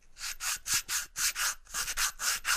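A man sands wood by hand in a workshop, a steady back-and-forth rasp of about a dozen strokes in quick rhythm, fairly loud with brief gaps between each scrape.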